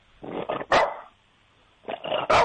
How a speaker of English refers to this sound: All right, that's a good bark. All right, Toby.